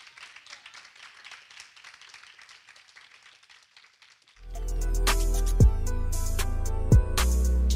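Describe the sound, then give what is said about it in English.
An audience claps together for the teacher in a steady, dense patter of many hands for about four seconds, then the applause gives way to loud music that carries on to the end. “Let's give God a hand clap for the teacher.”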